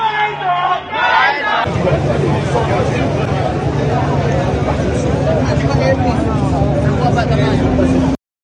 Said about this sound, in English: But yes, there's a big crowd of people outside. There you are.